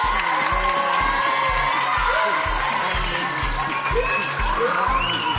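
A crowd breaks into loud, sustained applause mixed with cheering and shouts for a finalist at the grand final of a contest, while a steady low thumping beat pulses underneath throughout.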